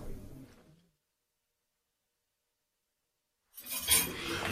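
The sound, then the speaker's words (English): Dishes clink and clatter in a bright, busy burst after a stretch of silence, with sharp high rattles of crockery and cutlery being stacked into a dishwasher. “Ah, that's the dishwasher loaded.”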